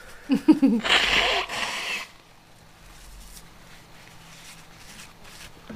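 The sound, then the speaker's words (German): A single forceful nose blow, a loud breathy rush of air lasting about a second, followed by quiet room tone with faint rustling. “Und Nase putzen. Da habe ich direkt alles gemacht.”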